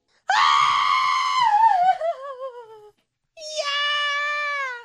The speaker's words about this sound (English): Someone texted in yesterday and was like, if we could not scream bloody murder after every scene, that'd be awesome. I'm like, it's literally part of the bit.